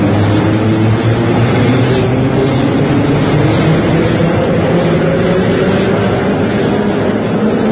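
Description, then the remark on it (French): Steady, loud rumble of a metro train in motion, a dense low roar with droning mechanical hum that holds constant throughout, with no voices. “Il tombe dans le métro, maintenant.”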